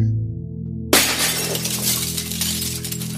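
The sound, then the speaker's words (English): A teacup is knocked over in a studio, spilling tea onto the soundboard, and shatters with a sudden sharp crash, followed by a scattered, lingering clatter of fragments over a steady low hum. No one speaks. “You knocked tea onto the soundboard.”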